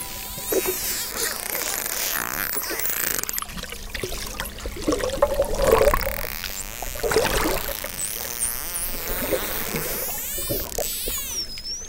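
Underwater recording of dolphins: steady bubbling, rushing water with crackling clicks, and several high sweeping whistles rising and falling, clearest toward the end. No one speaks.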